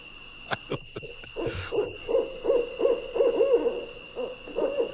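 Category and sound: bird, barred owl hooting call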